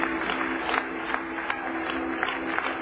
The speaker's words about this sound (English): Put your hands together for the Lord, everybody. Come on, praise God. Oh, clap your hands to Jesus right now.